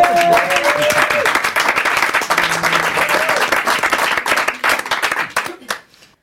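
On France Inter's La Bande Originale, a crowd applauds loudly for a performer with dense, sustained clapping and scattered cheers and whoops rising above it, holding steady for several seconds before tapering off into quiet at the end.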